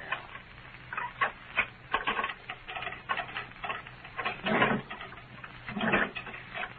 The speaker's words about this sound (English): to reach through the bars here, Lum, and get my keys and unlock the door.